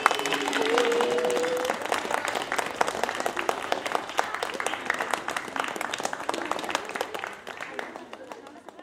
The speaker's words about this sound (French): et j'aimerais vraiment que vous leur disiez un grand merci et que vous les applaudissiez très fort